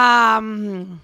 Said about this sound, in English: Like I have different birds. Like that's a good one. Peacock, right?